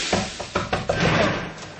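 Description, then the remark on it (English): Several heavy, irregular thuds strike a locked door, as if someone is pounding on it with a fist, followed by a muffled rumbling tail. “Open this door. Do you hear me? Hello, I said open this door.”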